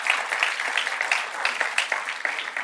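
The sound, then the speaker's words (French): An audience applauding God together, a dense, steady crackle of many hands clapping at once with scattered sharper claps standing out, fairly loud throughout and with no voices over it. “Est-ce qu'on peut applaudir notre Dieu qui se sert de nous partout où nous sommes?”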